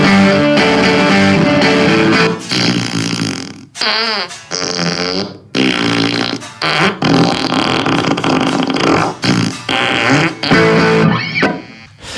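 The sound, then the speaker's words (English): Loud, buzzy fart noises from a fart effects pedal blare in irregular bursts over guitar playing, largely drowning it out, with brief gaps between the sputtering blasts. “Yeah, it just basically takes over and drowns out the guitar playing with rando fart noises.”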